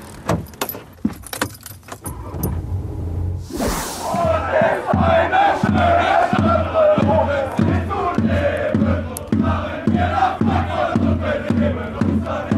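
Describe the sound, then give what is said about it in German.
A crowd of Bonn football fans chants loudly and steadily on a fan march through Frankfurt, Germany, starting from the Jahrhunderthalle car park, voices rising together after a short burst of jingling and clatter, with a regular rhythmic pulse like clapping or drumming under the chant. “Ja, ich glaube, man hört's. Die Bonner Fans und ich sind in Frankfurt angekommen.”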